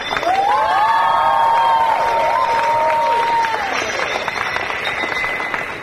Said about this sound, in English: A big round of applause for the audience.